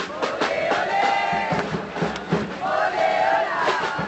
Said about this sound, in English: Instead, his visit to the coastal city of Mar del Plata triggered an explosion of anti-Bush sentiment. Tens of thousands of demonstrators paraded through the streets, calling for the Yankees to get out of Iraq and Afghanistan